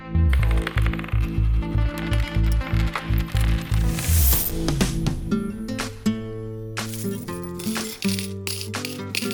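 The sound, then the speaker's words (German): Coins clink and clatter in a steady stream of bright metallic rattles, over a rhythmic low thumping pulse in the first half and a sustained tonal backdrop throughout. “Das Klirren, das Klappern der Münzen.”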